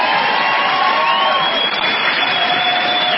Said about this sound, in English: Keep yelling. Just keep yelling.